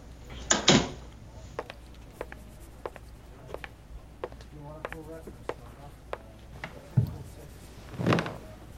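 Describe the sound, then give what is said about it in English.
A door swings and shuts with a dull thud, followed by scattered small clicks and taps, then another muffled knock and a brief swishing sound near the end. “Sure, I'll close the door.”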